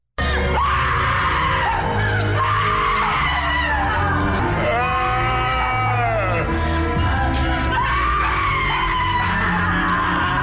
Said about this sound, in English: There are a lot of horrifying screams there. There's one guy in there.